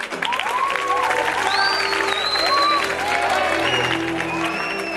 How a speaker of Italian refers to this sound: La sala del cinema Corso è piena di studenti, migranti e non. L'eccitazione è palpabile. Partito il filmato, si alza spontaneo un applauso.